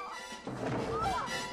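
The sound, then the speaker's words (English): A sudden burst of scuffling begins partway in, with muffled whacks and thuds of punches landing in a continuous fistfight between two girls dressed as Girl Scouts in a bar, plus a few brief strained vocal sounds. “The punches fly.”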